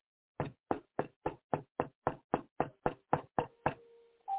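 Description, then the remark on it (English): A rapid, steady series of about a dozen loud knocks on a door, evenly spaced, with a faint lingering tone after the final knock and no voices. “I am knocking at your door.”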